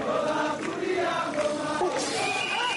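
Protesters against President Pierre Nkurunziza's third term clashing with police on Sunday in Bujumbura, Burundi's capital, as police fire tear gas to break up the crowds: a dense, continuous roar of many voices yelling and chanting over one another, loud and steady throughout, with no single voice or word standing out.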